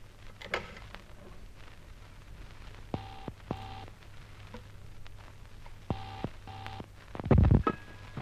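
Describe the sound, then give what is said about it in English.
A public telephone down the road being dialed: a few faint clicks, then two pairs of steady electronic tones a few seconds apart, followed by a muffled clunk of handling near the end. No one speaks. “Now then, leaving his nibs out like the proverbial light, I think I shall double back to the public phone down the road.”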